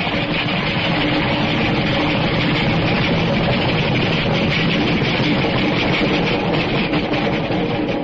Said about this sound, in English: Wait till the train goes by and hang on to your teeth. It's an express.